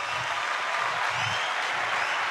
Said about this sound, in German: Ja, das Klatschen, das muss ganz laut sein.